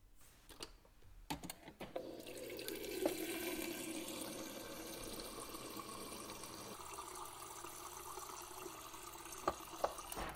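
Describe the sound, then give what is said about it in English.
A few soft clicks and knocks, then a steady stream of water runs from a tap into a glass for several seconds, the pitch rising slightly as it fills, fairly quiet. “Oh, I just wanted to take a glass of water.”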